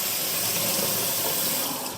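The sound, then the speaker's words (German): A kitchen tap runs steadily into a sink for washing peppers, a continuous rushing hiss of water that holds an even level throughout, with no voices. “Ich lasse mal Wasser laufen, um mal zu hören, wie das funktioniert.”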